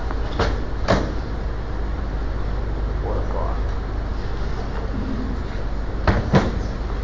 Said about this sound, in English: Okay, you guys, here, let's move these two chairs.